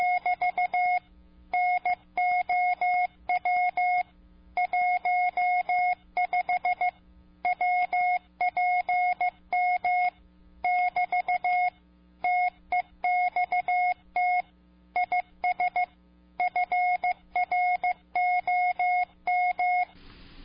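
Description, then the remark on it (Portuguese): A steady, high electronic tone keyed on and off in quick short and longer beeps, grouped with brief pauses as a Morse code signal for radio transmission, loud and clear with no voices throughout. “Por exemplo, um sinal de código Morse.”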